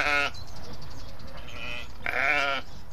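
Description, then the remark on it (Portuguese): Sheep from a flock grazing to clear vegetation in the city of Lisbon bleat loudly, two drawn-out calls about two seconds apart, with a steady outdoor murmur and other faint bleats in the background. “E num curto espaço de tempo, o rebanho de ovelhas conseguiu criar uma clareira.”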